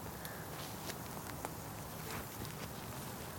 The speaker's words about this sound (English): So you could hear stumble trip. You could hear footsteps. That the paths are uneven. Trip hazards.